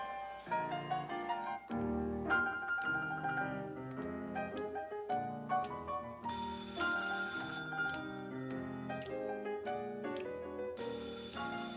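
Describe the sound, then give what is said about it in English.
A telephone rings with a bright, tonal, melodic ring that repeats steadily for the whole stretch, fairly loud, with no one talking. “Now watch those phone cues, will you, honey?”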